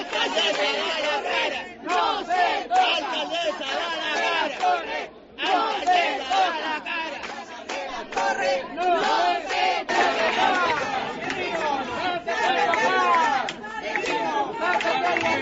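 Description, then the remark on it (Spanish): A crowd of agitated residents shout over one another in a loud, continuous clamor at a city council meeting with neighbors in the Las Torres district of Las Palmas de Gran Canaria, several raised voices overlapping with barely a pause throughout. “los ánimos estaban ya caldeados tras meses de inquietud entre los vecinos”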